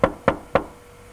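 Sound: knocking on a door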